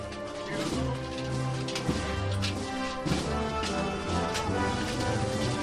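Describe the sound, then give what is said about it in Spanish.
A crowd applauds on Calle Adriano in the Arenal neighbourhood as the Virgen de la Caridad procession slowly advances, a dense, steady patter of clapping filling the whole clip, mixed with sustained low tones like a band playing a march underneath. “Ahora sí abre un poco más el paso y suenan los aplausos aquí en la calle Adriano.”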